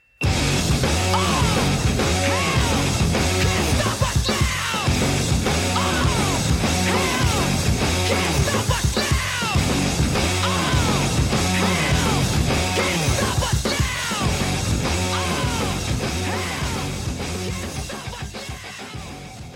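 A loud, dense rock song with a driving, steady beat and heavy distorted guitars, with a shouted, aggressive vocal on top; it plays continuously and fades slightly toward the end.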